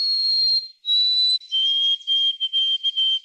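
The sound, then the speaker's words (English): A white-throated sparrow sings alone: two long, pure, high whistled notes, then a slightly lower note broken into a quick run of repeated, stuttering phrases. “I noticed that there was white-throated sparrows around”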